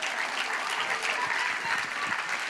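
Steady audience applause, a dense wash of many hands clapping at an even level throughout, with no voices standing out.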